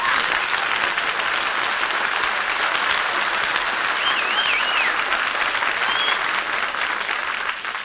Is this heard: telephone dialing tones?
no